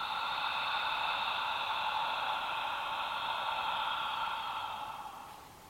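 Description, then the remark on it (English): A long, steady breathy exhale, an open-mouthed "ha" sound made while breathing in and out, lasting several seconds before fading softly at the end; alone, with no talking. “Making the sound again, the ha sound, breathing in and out.”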